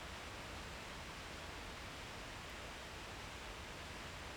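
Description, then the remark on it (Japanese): A steady, unbroken roar of a waterfall heard from more than 100 metres away from its plunge pool, a dense hiss of falling water and spray that stays constant throughout, with no voices or other distinct sounds. “あーけど、ほんと水しぶきだけでも想像以上ね。滝壺まで100メートル以上離れてるのに、ウェアがどんどんしっとりしてくるの感じるんだもの。”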